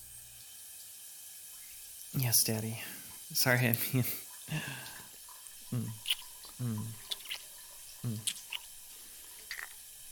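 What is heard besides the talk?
shower water running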